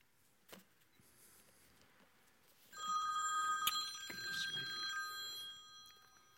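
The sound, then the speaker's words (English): A telephone starts ringing partway through, a bright electronic trill with steady sustained tones, fairly loud, following a brief knock near the start and otherwise quiet background. “If you've got a phone on, we don't want to be disturbed by any kind of random call.”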